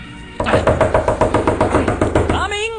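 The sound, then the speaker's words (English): Loud, insistent knocking on a door, a steady run of about a dozen quick raps, then a brief voice sound just after the knocking stops. “Whoever you are, you sure have a nice knocker.”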